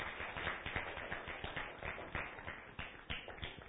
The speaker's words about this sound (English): Let's give them a round of applause as they come.